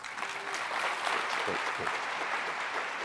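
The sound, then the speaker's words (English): A crowd applauds steadily for about three seconds, a dense, even wash of many hands clapping at a sustained, moderately loud level with no voices standing out, giving a warm welcome to a young girl about to share her story at a church. “Would you give a warm welcome?”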